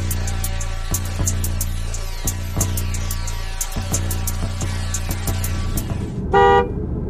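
A car engine rumbles steadily with occasional clicks and knocks, then a single short horn toot sounds near the end as the vehicle moves off. No one speaks.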